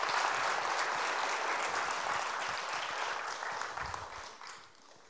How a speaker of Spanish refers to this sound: Dale un aplauso a estos jóvenes. Maravilloso.